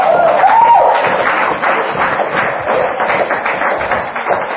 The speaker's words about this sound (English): Even what you think you don't deserve, you can give the Lord a hand clap for that if you believe it. Amen.